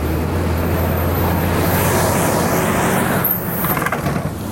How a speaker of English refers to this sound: Oh my gosh, it's bin day here in Auckland, New Zealand, and I'm having to navigate around these bins, so just excuse my panting and puffing. Oh my god, and the bin truck is very loud. There it goes.